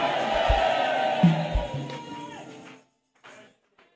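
audience screaming

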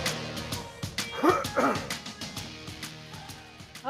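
dog barking

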